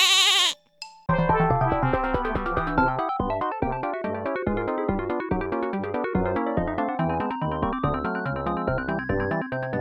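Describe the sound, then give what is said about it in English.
A single loud, quavering goat bleat opens, lasting under a second, then a brief pause gives way to bouncy, rhythmic music that plays steadily to the end. “The answer is Goat Simulator.”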